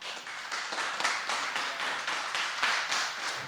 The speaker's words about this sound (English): So give them a great round of applause.